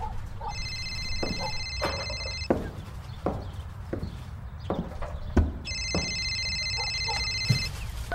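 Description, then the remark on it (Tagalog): A telephone rings with an incoming call in two long bursts of bright electronic trilling with a pause between, over a low background rumble and a few scattered knocks, with no one speaking. “Anak, may tumatawag ata sa telepono.”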